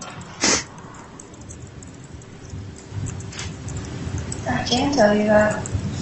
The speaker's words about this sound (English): You might also have heard some sniffling in this recording, and that's actually … crying on the stand